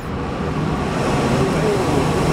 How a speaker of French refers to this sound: C'est impressionnant le niveau de bruit à ma gauche et à ma droite. Des murs entiers de ventilateurs avec des petits fils jaunes et noirs. Voilà le son que fait l'email que vous envoyez à Tati Thérèse.